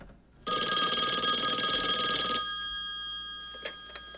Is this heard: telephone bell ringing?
yes